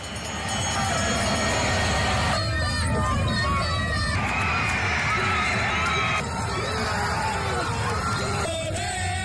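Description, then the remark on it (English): A big, very vocal Irish crowd in a stadium roars and cheers without letup, with high shouts and whoops rising over a dense, loud wall of voices that swells and shifts throughout. “And also very prominent amongst the entire thing was the presence of a very sizable and very vocal Irish crowd, and one that wasn't lost on the athletes that were competing themselves.”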